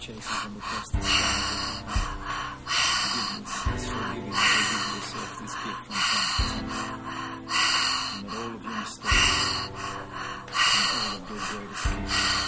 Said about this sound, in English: Keep going. We are in this together. We are all breathing together. We are sharing our breath.